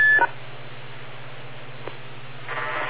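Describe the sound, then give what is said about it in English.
A short electronic courtesy beep from a radio repeater sounds at the very start, then gives way to steady static hiss and a low hum with no voices. “Wait for the beep.”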